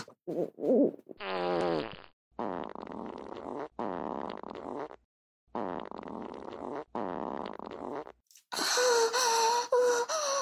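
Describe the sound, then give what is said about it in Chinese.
A long series of loud farts in several separate bursts, some buzzy and sputtering, others drawn out, ending with a harsher, higher-pitched blast. No speech. “好爽啊，我放屁放的真的好舒服啊”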